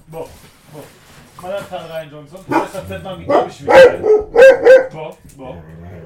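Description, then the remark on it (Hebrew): A dog named Gerev barks several times in short, sharp bursts, while a person talks around and between the barks. “בוא, כן, מבקר הקולנוע, הכלב הראשון.”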